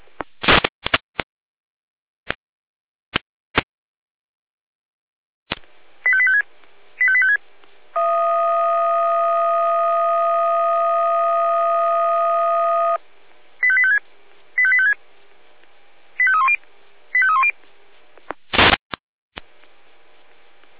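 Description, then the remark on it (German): Radio alerting tones from the Jena dispatch centre (Leitstelle Jena) calling fire brigade units to a two-vehicle traffic accident in Wichmar: sharp clicks and static bursts, then a long steady multi-pitched tone, followed by short paired beeps and quick warbling chirps, ending in a loud click. “Gehen wir mit Alarmierung.”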